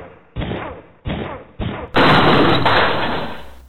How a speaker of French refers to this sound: défonce la porte. Affirmatif.